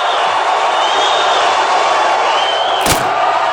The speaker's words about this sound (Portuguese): o Festival de 67 também é muito lembrado pela passagem na qual … quebrou e atirou seu violão na plateia que o vaiava. O episódio acabou se tornando um clássico da MPB.